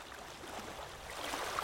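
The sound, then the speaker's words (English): Steady rushing of flowing water, a soft continuous wash with slight swells in intensity, heard on its own without any voices, played as a sound effect. “can you cue up some sexy water noises?”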